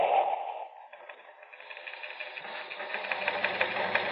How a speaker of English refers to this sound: It's coming over the teletype here in the newsroom of Terra's biggest newspaper, the Outer Space Dispatch. Here, I'll read it to you hot off the news tape.